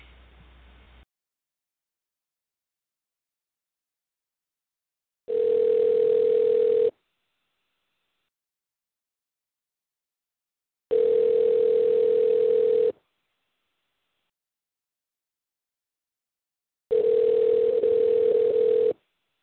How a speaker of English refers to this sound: Okay, let me try calling it one more time. Hopefully they pick up.